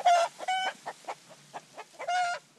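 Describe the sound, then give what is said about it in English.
Chickens cluck on a 170-acre farm carved out of the jungle, with rows of soybeans, in a busy series of short calls, with three louder, drawn-out squawks standing out among softer quick clucks. No voices are heard. “On 170 acres, there are chickens and rows of soybeans, the region's cash crop,”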